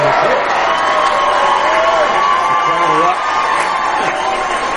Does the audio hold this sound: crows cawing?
no